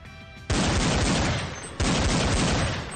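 Two loud, close bursts of rapid gunfire as two people shoot at each other at close range after climbing over rock cover, each erupting suddenly and sustaining a dense crackling roar before the next volley; no voices are heard.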